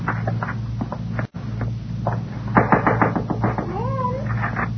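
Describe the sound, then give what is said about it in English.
A cat meows, a couple of drawn-out wavering cries near the end, over a steady low hum with scattered light tapping and knocking sounds. “Oh, hello, Kitty.”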